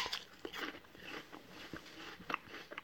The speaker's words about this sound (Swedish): Och så åt Denji ett äpple.